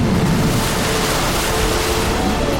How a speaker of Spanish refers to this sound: Poco después se levantó un viento fuerte sobre ellos y el mar se agitó mucho.